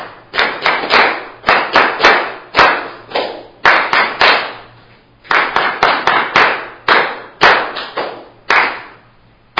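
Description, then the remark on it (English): A group claps a rhythm exercise of quarter and eighth notes together, sharp claps in short bursts and phrases with brief pauses between, fairly loud and without any talking. “I'll give you a measure again, and we'll do 8, but we're just clapping it this time all together, and we'll do the whole thing.”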